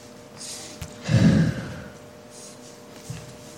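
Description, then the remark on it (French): A single deep, breathy exhale as a person breathes deeply, rushing and airy for about half a second, with faint softer breaths around it and no talking. “respirez profondément”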